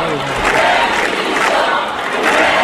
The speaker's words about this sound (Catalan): I que hi ha gent que està aplaudint i fa aquests càntics del govern de divisió, però hi ha molta que no està aplaudint aquestes proclames.